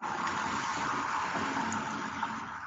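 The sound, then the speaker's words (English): A car speeding away, heard as a loud, steady rushing roar of engine and road noise that holds constant throughout, with no voices. “And a car speeding away.”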